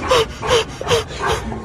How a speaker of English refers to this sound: Dog is chasing after a ball.